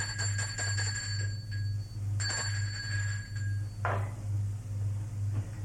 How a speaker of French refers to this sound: Il sonne à la porte, il est 20h30.